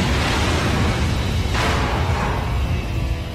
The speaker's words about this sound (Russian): Раздался последний оглушительный взрыв.